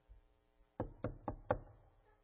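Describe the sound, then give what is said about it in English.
Four firm knocks on a door in quick, even succession, clear, with a low hum in the background and no one speaking. “What is that? It's a knock. Open the door.”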